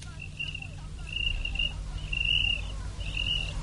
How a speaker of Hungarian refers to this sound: Ó, a táltos tücsök, ott a gerendán.